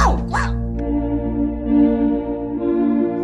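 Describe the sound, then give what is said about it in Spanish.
Canito, the detective dog on a TV program, gives two quick, high-pitched barks right at the start, fairly loud, followed by a steady tonal musical drone that carries on to the end. “Mira, Lisa, Canito, el perro detective.”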